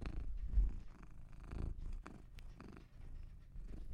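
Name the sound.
domestic cat purring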